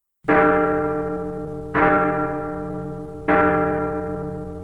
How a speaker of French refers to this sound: Elle avait un gros son de cloche d'église qui faisait penser aux morts. Tout le monde en frissonna.